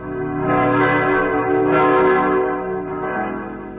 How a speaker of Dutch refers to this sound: En sidderen zijn stenen onder de dreun van zijn zware klokken, de stem voor levenden en doden.